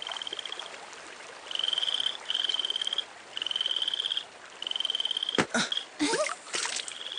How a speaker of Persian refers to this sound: اونجا رو ببین. اینه ها، یه قورباغه.